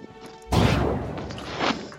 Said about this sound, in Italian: Quello che avete appena sentito è un colpo di pistola, dimostra come sia il mio status...